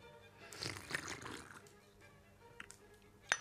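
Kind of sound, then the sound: food or drink, slurping tea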